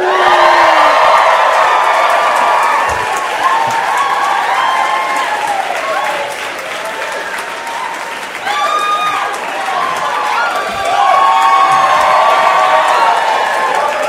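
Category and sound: crowd, audience cheering and whooping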